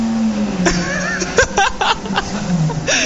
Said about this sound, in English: And then you just blend it and that's it. Right, we're going for it. 3, 2, 1, hit the blender button.